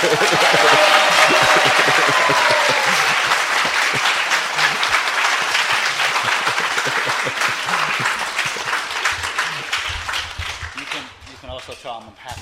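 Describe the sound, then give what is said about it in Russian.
Loud, sustained applause from a large crowd, dense and continuous, with some cheering mixed in early, gradually thinning out and fading toward the end. “That deserves a bigger applause.”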